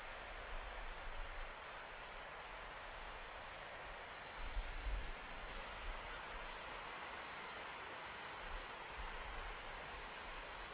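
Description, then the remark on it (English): Steady, hissing wash of moving water fills the scene at a low, even level, with occasional soft low rumbles rising briefly underneath, on the south bank of the Broad River at low tide, where it meets the Atlantic Ocean at a long white sand beach on the south shore of Nova Scotia. No voices are heard. “I'm sitting on the south bank of the Broad River at low tide. Here the Broad River meets the Atlantic Ocean at the end of a long white sand beach.”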